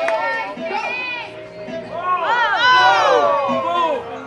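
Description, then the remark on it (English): A lively crowd cheers and shouts as a new take on a Pong game gets underway on a summer night, many voices overlapping in rising and falling whoops that swell louder midway and hold steady to the end. “As the game gets underway, the crowd reacts with gusto.”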